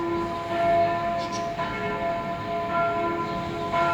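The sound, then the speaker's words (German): The bells of the Marktkirche ring shortly after 12 noon on the second anniversary of the 9 October 2019 attack, marking its start time; their overlapping tones are sustained and blend into a rich, resonant peal at a steady, moderate loudness with no voices present. “Dafür läuteten wieder die Glocken der Marktkirche, kurz nach 12.”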